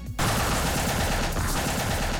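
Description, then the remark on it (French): A bombardier beetle's defensive chemical blast, made when the beetle feels in danger: after a brief quiet start, a loud, dense stream of rapid crackling pops runs steadily to the end, sounding almost like machine-gun fire, with no voices. “Ce que vous venez d'entendre, oui, c'est un coléoptère bombardier.”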